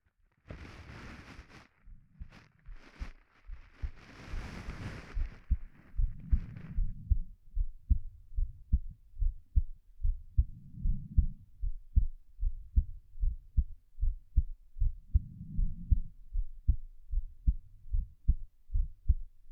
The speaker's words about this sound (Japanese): どう？ママの心臓の音。聞こえるよね。